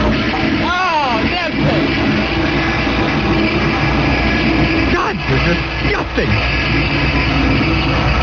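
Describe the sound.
A toilet flushes and refills with a loud, steady rush of water lasting the whole stretch, while a voice briefly speaks over it near the start.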